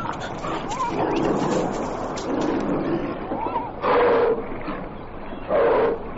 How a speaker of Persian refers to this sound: وای بر من، این نهره شیریست. اگر بیش از این در اینجا بمانم بیشک تومه درندگان خواهم شد.